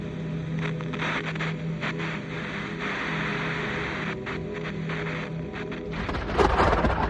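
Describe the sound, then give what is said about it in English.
A steady, low rumbling storm builds before a sudden loud clap of thunder bursts near the end, crackling sharply over the ongoing roar. “A particularly loud clap of thunder rouses Albert from sleep.”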